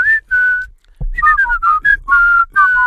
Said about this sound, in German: Und habe jedes Mal einen anderen Song gepfiffen, so einen klassischen Ohrwurm-Song. Und ich wollte ihm jedes Mal einen anderen Ohrwurm geben und dann gucken, ob er beim nächsten Mal den Ohrwurm selber pfeift.